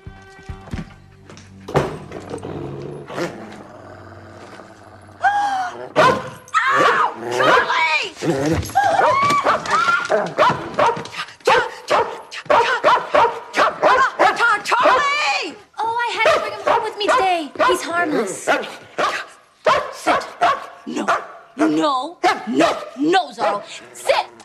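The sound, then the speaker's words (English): A Doberman standing behind a door in a house barks loudly and insistently, a rapid, almost continuous string of deep barks that starts after a few quieter seconds and keeps going with only brief pauses. “There is a Doberman standing behind the door.”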